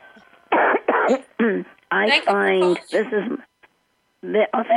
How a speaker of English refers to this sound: Yes, but you know what? I'm just going to tell you guys a couple things, and then I'll go, because I don't want to cough all the time.